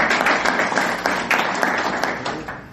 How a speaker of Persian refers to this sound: ماشاءالله تشویق.